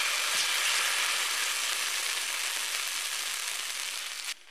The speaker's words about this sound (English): And I'm going to put some butter on there. Once your butter is nice and sizzling, you can spoon a little bit of your batter right onto your griddle and let it cook.